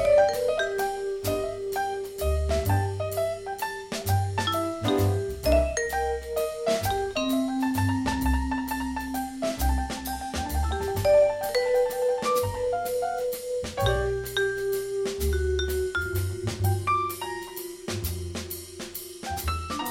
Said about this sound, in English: But the vibes, with its doorbell chiming, could be hard to get down and dirty on,